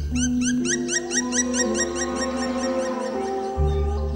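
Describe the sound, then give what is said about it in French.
A black woodpecker calls in a rapid, even series of about a dozen ringing notes, carrying over a steady low hum in the background. “Oh, il y a eu un cri, là. Pic noir.”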